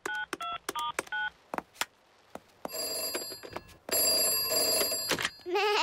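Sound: telephone dialing and ringing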